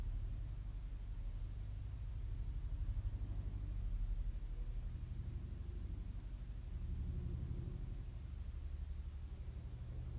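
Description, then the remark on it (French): A low, steady engine drone rumbles faintly, from a tractor or an airplane outside, holding constant for the whole stretch with no voices. “Vous pouvez noter la fin de la toux que nous entendons, la fin du tracteur ou de l'avion dehors, quand il s'arrêtera.”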